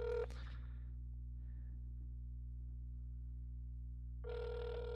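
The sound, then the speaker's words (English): A phone ringback tone sounds twice while a call is placed live to the Cupcake Center of Cleveland, one short burst at the start and another about four seconds later, with a low steady hum and no talking in between. “Let's get him on the phone. He probably won't answer now that we're ringing him live.”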